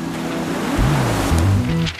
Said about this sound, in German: Noch mehr Wind und Wellen und Sturm und das eine oder andere Möwenkrächzen gibt es jetzt gleich für euch